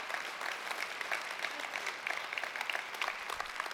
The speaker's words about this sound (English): How many are grateful for the blood of Jesus? You should be clapping a lot more.